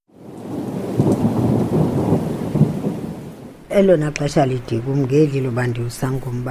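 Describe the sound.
Heavy rain pours down with low, rolling thunder for several seconds, loud and close, then a person starts talking over the fading storm.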